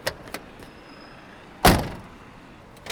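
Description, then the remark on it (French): The door of a 1963 Peugeot 404 shuts once with a solid, fairly loud thunk as passengers take their seats for a ride through Paris, preceded by a few faint handling clicks and followed by quiet cabin ambience. “Alors je vous invite à prendre place dans notre Peugeot 404.”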